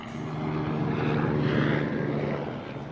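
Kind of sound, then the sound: vehicle, helicopter flying overhead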